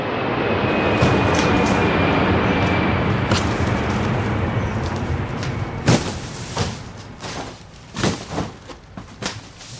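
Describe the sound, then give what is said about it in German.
The loud, steady roar of the first jet planes of the day rumbles overhead in Glattbrugg for several seconds, then slowly fades while a series of sharp clanks and knocks punctuate the end. No one speaks. “Obendurch donnern die ersten Flüger vom Tag.”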